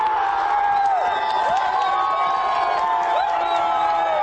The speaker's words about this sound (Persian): هنوز داد و فریاد مخلصان از گل نخست تمام نشده، نومان جان حکیموف در دقیقه 47 حساب را 2-0 نمود.